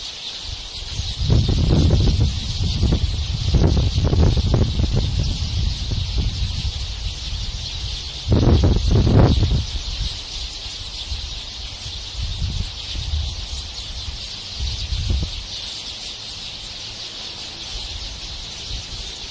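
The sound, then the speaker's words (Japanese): A large flock of about 100 sparrow-sized birds chatters in two trees in a parking lot, recorded on 9 August 2015 at 6:44 pm: a dense, continuous high-pitched twittering with no breaks, joined by occasional low rustling thumps and bursts of wind-like noise. “2015年8月9日午後6時44分さてですね、駐車場の2本の木にものすごい数の鳥が来ました。大きさはスズメぐらいの大きさですけども、まあ軽く100羽はいるでしょう。”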